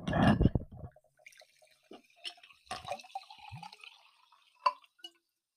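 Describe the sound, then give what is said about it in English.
Sparkling Voss water from a cylinder-shaped bottle pours briefly and fairly loudly into a glass, then gives way to soft fizzing, scattered drips and a couple of light glassy clinks, with no talking. “Some for me, some for you.”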